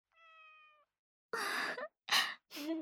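A cat meows several times in quick succession: a thin, steady first cry, then three breathier, rougher calls separated by short pauses, fairly clear with no talking.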